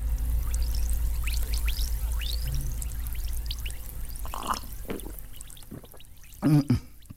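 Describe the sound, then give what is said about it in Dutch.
An effervescent tablet fizzes in a glass of water: a steady hiss of tiny popping bubbles that continues throughout, with a few brief louder knocks toward the end. “Een bruistablet.”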